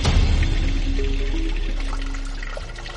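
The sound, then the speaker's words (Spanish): Water pours and splashes steadily from a stone fountain built by the Incas, one of 16 fountains in the city, a continuous rushing flow with a faint trickling texture and no voices. “pero también construyeron fuentes donde parecían celebrarla.”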